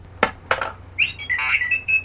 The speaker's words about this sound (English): Wait, what was that noise? That's right. That is actually the Pop-O-Matic dice portion of a Trouble game that I am now using in order to come up with some random podcast elements here at the end of the cast.